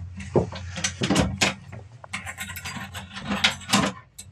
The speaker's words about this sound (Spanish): La puerta ha sido cerrada con llave